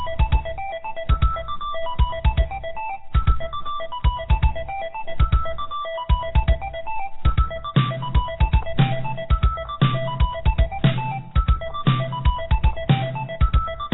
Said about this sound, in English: I was trying to figure out. I was looking at my damn phone. What the hell is that? That's the battle beat.